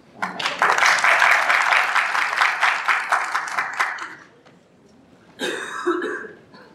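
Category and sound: crowd, applause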